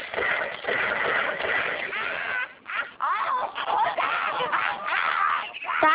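A goose honks repeatedly in harsh, nasal calls that come in quick overlapping bursts, loud, with brief pauses and a noisy outdoor background.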